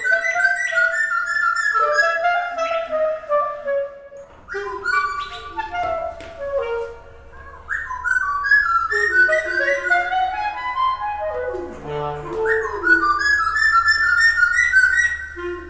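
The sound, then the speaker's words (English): A small bird with brown feathers and a dark beak sings in bright, gliding phrases in call and response with a clarinetist's sustained, reedy clarinet notes, the two weaving together over a faint low hum with no talking. “This bird and this clarinetist are doing something together.”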